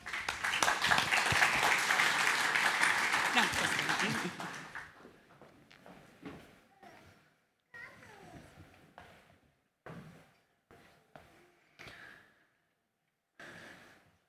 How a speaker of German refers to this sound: Dann würde ich sagen, Frank, die Bühne gehört dir und wir empfangen den Frank mit einem kleinen Applaus.